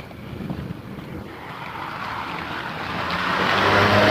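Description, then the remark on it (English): A car's engine and tire noise grow steadily louder as it approaches along the road, with gusty wind buffeting the microphone and no one speaking. “That's my friend with a little Scotty dog, standing here beside the road talking to somebody in the car.”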